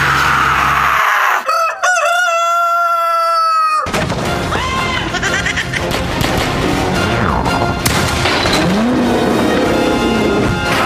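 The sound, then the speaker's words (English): A really large rooster in a farm hen house lets out a loud crow lasting a couple of seconds, followed by agitated clucking over a dense, noisy, roaring background. “Hey, what is that clucking sound coming from the hen house? It's a really large rooster.”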